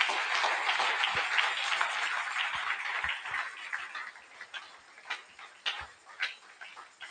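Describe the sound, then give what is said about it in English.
An audience at a church service claps together for a young man in a dense, sustained burst of applause that gradually thins out, with a few sharp individual claps standing out as it fades. “Clap for him.”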